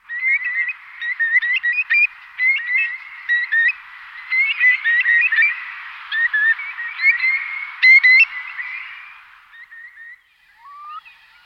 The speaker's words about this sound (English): Curlews make the sound of a desolate landscape, saying their own name or making a long, bubbling call.